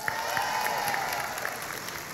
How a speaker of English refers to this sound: Fake tree, real tree. Right? All right, by applause. Fake tree.